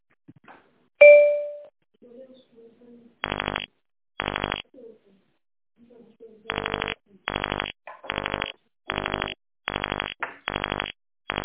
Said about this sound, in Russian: Вас приветствует голосовой помощник Pony Express. Я помогу вам отследить ваше отправление. Пожалуйста, введите номер заказа на клавиатуре телефона без дефисов после звукового сигнала.